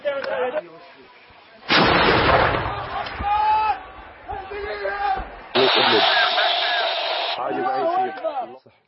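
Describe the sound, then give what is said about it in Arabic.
Two loud, roaring blasts of an improvised 'hell cannon' artillery piece fired on the Idlib corniche, each a sustained, booming rush of noise several seconds apart, with men shouting 'Allahu Akbar' throughout. “تزيد ملعب مدفع جهنم على كورنيش إدلب.”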